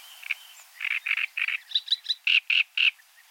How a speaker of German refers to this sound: Ein schönes Beispiel: der Drosselrohrsänger. Konkurrierenden Männchen schmettert er eine Art Fanfarengesang entgegen.